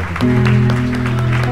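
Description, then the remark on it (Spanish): An audience claps steadily for God throughout, a dense patter of hands over a sustained, droning keyboard chord that swells in just after the start. “Este aplauso, Señor, es para ti.”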